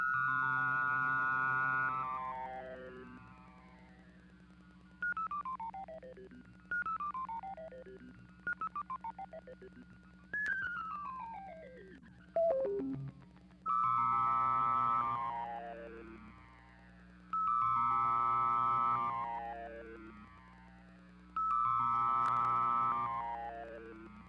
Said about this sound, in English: A sine wave processed through the Klangumwandler and a tape loop.